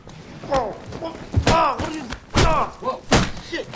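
Several heavy, sharp whacks of a thick phone book striking a man land in quick succession, loud, between strained shouts and cries from people nearby.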